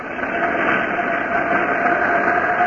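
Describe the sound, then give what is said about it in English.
The starboard jet engine of the RX-3 starts up and roars steadily, a dense, even rush of noise with a thin, sustained whine running through it, holding at a constant loud level for a few seconds. “Starting starboard jet.”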